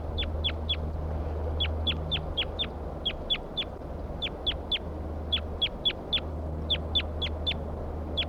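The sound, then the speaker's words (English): A bird calls loudly in repeated bursts of three or four sharp, high, downslurred notes, with short pauses between groups, over a steady low rumble. “Start recording the bird again. Still calling loud.”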